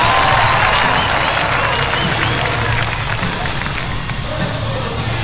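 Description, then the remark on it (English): A huge arena crowd on its feet roars and applauds in a sustained standing ovation for the World Heavyweight Champion, Absolutely Real, a dense, loud wall of cheering and clapping that holds steady throughout. “The fans here are in full roar mode, and my God, what an ovation for Absolutely Real!”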